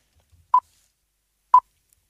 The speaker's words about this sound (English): You would then hear 3 beeps. You answer on the 3rd beep.